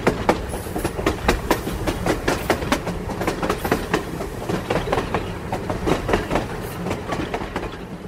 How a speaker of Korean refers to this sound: 1919년 3월 압록강을 넘어 만주를 향해 달리는 기차 안.